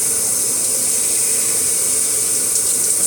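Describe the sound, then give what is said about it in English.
Water pours steadily from a shower while a person showers, a constant bright hiss of spray splashing with no pauses, loud and continuous throughout. “I'm taking a shower, babe.”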